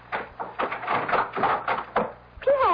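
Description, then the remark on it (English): A door is opened amid a run of clattering knocks and rattles, and a voice starts speaking right at the end. “I must answer the door.”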